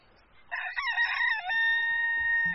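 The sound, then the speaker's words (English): A rooster crows once, a loud, strained cock-a-doodle-doo that breaks into a long sustained high note before cutting off, with faint low rumble underneath. “The next morning, when the cock crowed, the lion turned over in bed and went back to sleep.”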